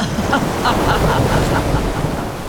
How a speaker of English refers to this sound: Water sprayed all around them.